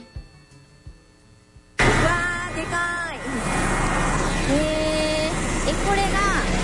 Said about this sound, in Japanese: これ遠心 濃縮機、 遠心濃縮機 になります。これはずっと高速で回転してます。で、遠心力で あの泥と水を分離させてる機械になります。 洗濯機の脱水の時のことに似てます。